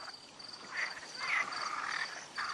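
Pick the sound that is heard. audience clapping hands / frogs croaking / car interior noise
frogs croaking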